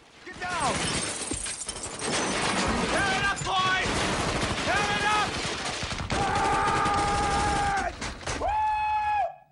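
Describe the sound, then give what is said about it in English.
A loud fusillade of rapid gunfire crackles almost nonstop for several seconds as a gunman opens fire beyond a burning pickup truck, with sharp, shouting voices rising over the shots and glass shattering in a staff room. “Beyond the pickup, Watkins opens fire.”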